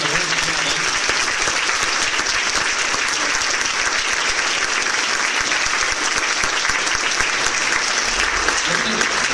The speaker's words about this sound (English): Thanks for coming. Let's give these guys one more round of applause.